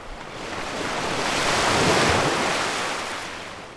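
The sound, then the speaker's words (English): A single ocean wave sound effect, built in for the fish sprite in Scratch, swells and recedes, a broad rushing hiss that builds to a peak midway and fades out, with no voices present. “And one is called ocean wave.”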